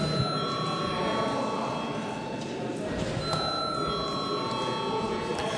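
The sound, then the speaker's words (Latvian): An electric voting bell in the Saeima, Latvia's parliament, rings steadily for several seconds before a secret vote on appointing a Riga district court judge, a sustained metallic ringing with bright overtones and a rattling buzz, over a low murmur. “Lūdzu arī Saeimu atbalstīt šo lēmumu projektu. Paldies, lūdzu zvanu.”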